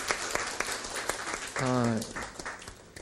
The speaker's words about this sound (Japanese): ですから全ての第一、第二、第三の方々に心から本当に掃除を手伝ってくださってありがとうございますという拍手を送りたいと思います。